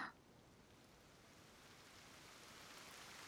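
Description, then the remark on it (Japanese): Heavy rain pours down in a steady, dense hiss that swells slightly louder toward the end, with no voices or other sounds breaking through. “雨、強くなってきたね。”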